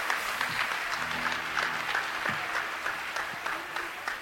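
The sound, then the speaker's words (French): A crowd applauds steadily to welcome guests, a dense wash of many hands clapping at a moderate, even level, with a faint voice and a low tone surfacing briefly underneath. “Donc, merci de les applaudir, de les accueillir de tout votre cœur.”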